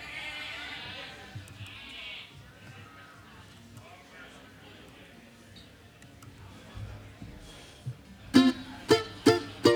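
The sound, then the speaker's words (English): Amid low crowd murmur and chatter, voices break into a quick run of four loud, harsh bleats near the end, imitating a goat. “We start making chicken and goat noises and stuff again.”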